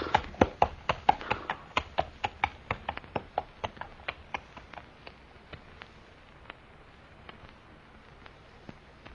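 Horse hooves clip-clop at a steady walking pace on a hard surface, gradually fading as the horse is led away to the stable. No one speaks.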